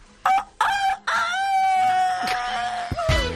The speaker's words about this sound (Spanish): os dejo ahí el gallo para vuestro solaz.